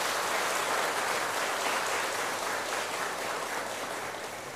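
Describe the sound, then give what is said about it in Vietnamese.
A crowd claps steadily in praise of teachers, a dense wash of many hands that holds strong before easing slightly toward the end, with no voices over it. “Chúng ta hãy dâng cao tràng vỗ tay thật lớn để ca ngợi chung.”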